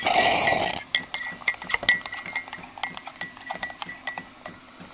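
A coffee machine's milk spout dispenses hot milk into a cup for hot chocolate: a short burst of loud frothy hissing, then a run of irregular sputtering clicks and gurgles, with no talking.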